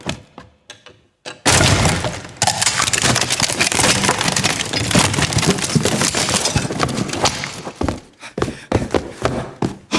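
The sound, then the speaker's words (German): A door is broken open: a few faint taps, then a sudden loud burst of crashing, cracking and splintering wood that lasts several seconds before trailing off into scattered thuds. “Brechen Sie die Tür auf!”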